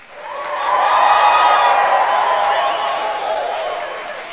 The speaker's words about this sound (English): Give the birthday girl a huge round of applause.